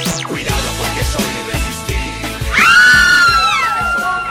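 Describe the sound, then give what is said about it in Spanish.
A loud, high-pitched hysterical scream from a man about to go on air on a radio program rises sharply and trails off over a steady, thumping music beat, bursting in about halfway through and lasting a second or two. “Pues ahí está con los gritos de histeria de siempre,”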